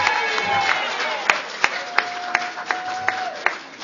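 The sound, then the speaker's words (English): An audience applauds and cheers, a dense wash of many hands clapping with a few sharp claps standing out and voices whooping through it, filling the whole stretch at a fairly loud level. “You may not cheer so much after a while when you hear what's going to happen.”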